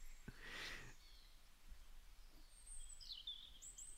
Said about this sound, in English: The birds make it better.